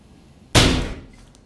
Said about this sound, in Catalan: L'Ivan pica contra el vidre de la porta, llança per terra una cadira i marxa corrent.